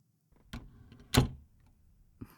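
door being shut

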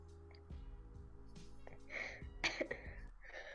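person coughing

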